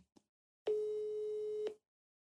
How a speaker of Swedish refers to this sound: Jag ringer upp henne här nu då.